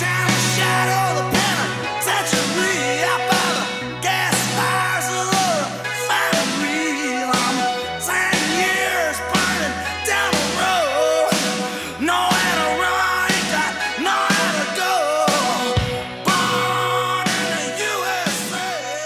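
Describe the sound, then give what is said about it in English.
A loud, driving rock song with pounding drums and a steady bass line, a strained, shouting vocal riding high over the dense full-band sound the whole way through. “turning up the volume and shouting out the lyrics almost as if for joy.”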